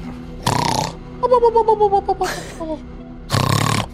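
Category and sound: vocal imitation, person imitating loud snoring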